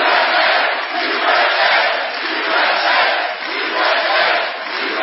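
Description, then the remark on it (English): A large crowd at a President Trump rally in a Cleveland suburb roars with sustained cheering and chants of "USA", a dense wall of voices rising and falling in loud waves, with no single speaker standing out. “Enthusiastic crowd greeted President Trump at a rally in a Cleveland suburb Saturday, the last special election before the midterms.”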